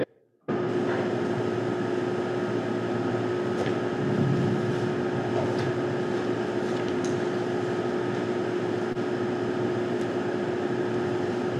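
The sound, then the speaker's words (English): A steady, droning air conditioner hum starts abruptly and runs continuously at an even level, with a strong tonal whine and broad rushing noise, no voices present. “Sounds like there's a vacuum cleaner in the background. I think it's the air conditioner.”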